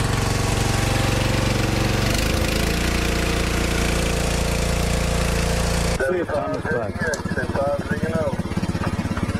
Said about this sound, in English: Okay, at the lowest idle speed, we're showing 12.74 volts, so I don't think that would be a problem. I think we could operate off of that. Let's run the engine on up a little faster.